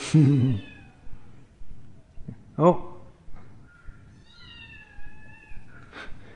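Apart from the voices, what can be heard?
kitten meowing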